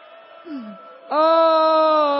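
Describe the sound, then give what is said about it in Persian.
A voice imitates a child's wailing cry: a soft, falling moan, then a sudden loud, sustained wail held steadily to the end, alone with no other talk. “آه آه آه، من اومدم داد بزنم.”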